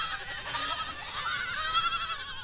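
A young goat bleats in a high, wavering cry, sustained and fairly loud, with a second rising bleat following close behind, no voices present.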